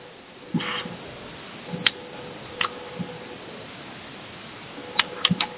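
Sparse clicks of someone typing on a computer keyboard, a few isolated keystrokes then a short quick burst, close and fairly quiet over a steady low hum, with no one speaking.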